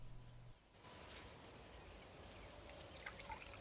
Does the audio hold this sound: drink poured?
yes